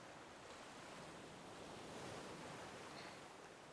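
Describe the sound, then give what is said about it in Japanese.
A steady, soft wash of ocean surf breaking on a shore, a continuous hiss-like roar with a gentle swell near the middle and no voices. “せっかくここにいるんだから、海の方見なさいよ。”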